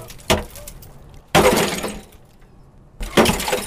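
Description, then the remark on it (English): An axe chops through a thick sheen of ice on the water in a big metal rain receptacle after a cold night, in three sharp, loud blows, each followed by a brittle, crackling shatter as the ice breaks apart, with short quiet gaps between strikes. “It was cold the night before, so there's a thick sheen of ice on the water. But the axe fixes that.”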